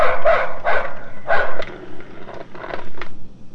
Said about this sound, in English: Okay, let's hear the dog. Pull it way back. This is a dog.